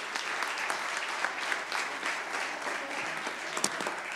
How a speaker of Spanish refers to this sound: Póngame un aplauso al Señor. Gracias. Gracias.